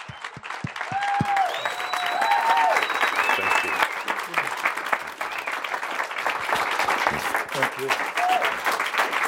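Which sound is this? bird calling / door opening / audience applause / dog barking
audience applause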